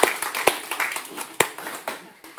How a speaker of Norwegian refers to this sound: En applaus til min bror.